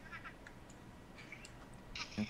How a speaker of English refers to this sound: Is that a cat? Yeah, she's just providing the sound effects.